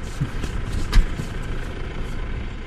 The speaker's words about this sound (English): A tractor engine and the occasional car are about all that disturb the bucolic landscape near the small town of Feldkirchen.